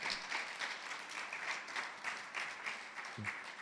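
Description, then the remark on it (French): Steady audience applause from many couples, a dense crackle of many hands clapping at a fairly even level throughout, with a brief low thump near the end. “Alors, j'ai vu beaucoup de couples applaudir, donc je vous attends aux ateliers aimés.”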